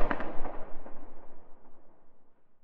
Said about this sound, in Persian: هنوز چشمم گرم نشده بود که یهو صدای تیر اومد.